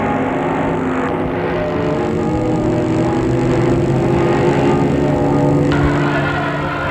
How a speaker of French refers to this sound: Une voiture qui arrive.